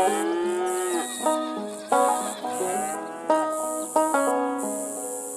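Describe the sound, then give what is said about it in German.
Cows moo in a series of long, drawn-out calls, several overlapping, with a steady high chirring of crickets running throughout, in a calm countryside landscape of a video game world. “Es blöken Schafe, muhen Kühe und zirpen die Grillen.”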